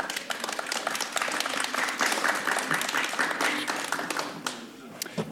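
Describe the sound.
An audience bursts into sustained applause, dense overlapping claps holding steady for several seconds before thinning slightly toward the end, with a few faint voices mixed in.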